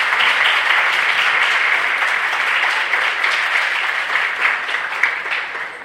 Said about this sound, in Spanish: Ella es nuestra reportera. Fuerte el aplauso, mamá.